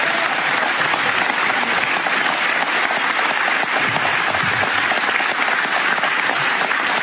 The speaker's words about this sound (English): Listen to that response, folks. A round of applause, a standing ovation. That's America right there, folks.